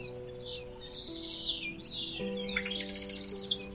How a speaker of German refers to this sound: Ein fröhliches Gezwitscher beginnt. Du musst lachen, so witzig klingt das.